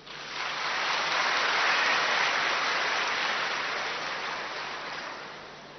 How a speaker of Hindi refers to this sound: तालियां तो बजाओ।